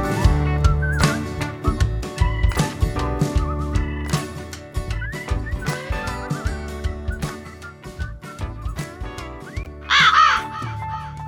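A raven calls again and again with harsh, rasping caws, loud and spread across the whole stretch, set against a steady musical backdrop. There is no talking.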